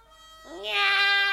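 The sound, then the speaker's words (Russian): A single drawn-out cat meow that rises in pitch and grows louder, clear, lasting about a second with no talking around it. “Кошки, кошечки, идите ко мне! Этого еще не хватало соседских кошек звать.”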